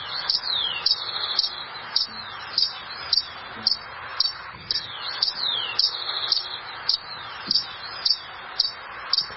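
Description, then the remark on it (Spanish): A hummingbird, a species common in house gardens and urban parks in Bogotá, gives a steady series of high, thin, squeaky chips, repeated in a quick regular rhythm with a few buzzy trills mixed in, heard alone without talking. “digamos en Bogotá tenemos la fortuna de tener un colibrí muy abundante que está en los jardines de las casas, en los parques urbanos.”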